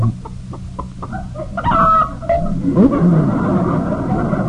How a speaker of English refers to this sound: Oops. Hey, that hen just laid an egg.